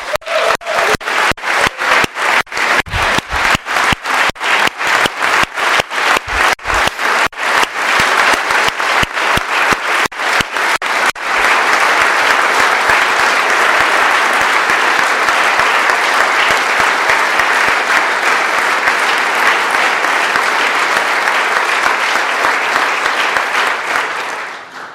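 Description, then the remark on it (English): An audience breaks into loud applause for military veterans and their families, starting with distinct rhythmic claps that quickly swell into a dense, sustained roar of clapping from a large crowd, holding steady until fading at the end. “And I believe all military veterans and their families deserve a round of applause.”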